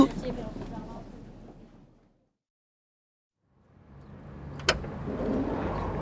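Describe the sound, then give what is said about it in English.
A car engine rumbles and fades away, followed by a stretch of silence, then a sharp click as an engine starts and builds to a steady, growling run as the car pulls off. “Oh, they've got a car!”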